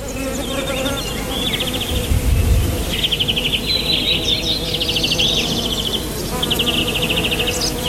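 A dense swarm of honeybees buzzes steadily, a thick droning hum with sharper whirring passes as individual bees fly past, and no voices.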